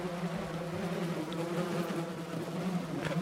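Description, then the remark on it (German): A steady, dense buzzing of many bees swarming around beehives at a farm, a continuous droning hum with no talking, holding an even level throughout. “Bei einem Bauernhof sah er Bienenkörbe.”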